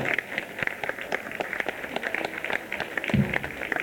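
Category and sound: crowd, audience applause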